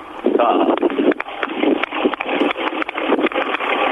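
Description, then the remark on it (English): A tractor engine at Cowhouse Farm in Wetherill runs steadily with a loud, rough, clattering drone and rapid knocking pulses throughout, sounding thin and band-limited as if heard over a phone line. “No, have you got a tractor nearby? Yeah. Turn it on.”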